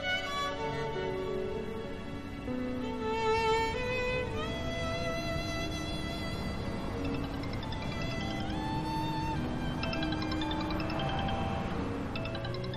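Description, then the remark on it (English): A telephone rings with an aunt's incoming call: a bright, melodic ringtone that plays continuously and steadily for the whole stretch, fairly loud, with no one talking over it. “She might answer Aunt Homer's phone call.”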